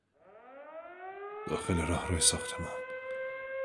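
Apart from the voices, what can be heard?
wailing alarm siren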